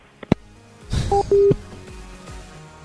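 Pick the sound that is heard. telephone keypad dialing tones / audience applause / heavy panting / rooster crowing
telephone keypad dialing tones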